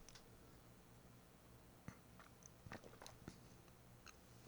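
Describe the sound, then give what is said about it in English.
Someone quietly sips a light, clean, dry Junmai sake from a glass, with a few soft wet slurps and mouth clicks over faint hiss and no talking. “Yeah, really, really light, clean, and I'm ready to take a sip. So here we go.”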